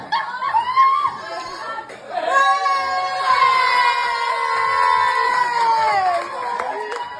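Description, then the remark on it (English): A restaurant crowd erupts into sustained cheering and whooping as staff get a woman out of a bench seat, with high excited voices, laughter and shouts blending together for several seconds before tapering off slightly. “Restaurant cheers when they got her out.”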